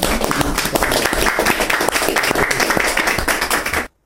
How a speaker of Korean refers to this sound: 이런 분들을 위해서 격려 박수로 웰컴 박수를 하나 주십시오.